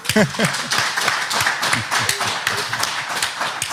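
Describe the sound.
A small crowd of people seated spaced apart claps steadily for a few seconds for Hansi Flick, dense overlapping hand claps with a bit of cheering and voices mixed in underneath.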